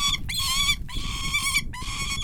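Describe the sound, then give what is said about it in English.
A captive bird named Storm makes contented noises while eating bits of pheasant meat in Augusta, Kansas: three drawn-out, nasal, harmonic-rich calls in quick succession, steady in pitch with short gaps between, over a low rumbling background. “And she makes contented noises as she eats.”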